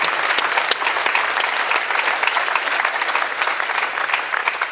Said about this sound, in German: Ich freue mich sehr über Dr. Jochen Drees und er kriegt einen freundlichen Applaus, nehme ich mal an, aus München, auch wenn er da so ein bisschen im Dunkeln sitzt.